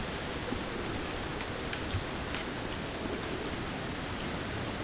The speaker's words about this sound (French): Et ça, ce que tu entends là. Le bruit du vent dans les arbres, dans les branches, dans les feuilles.